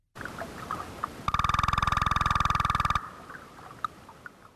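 A fish call: a rapid burst of evenly spaced knocks, around thirty in under two seconds, merging into a buzzy, mid-pitched drumming like a woodpecker, set against faint background noise.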